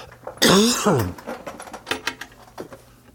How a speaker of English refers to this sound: I have a sore throat and I need to pop a throat lozenge here to cut down on all this coughing. And I apologize for the grating sound that I know it is on this recording.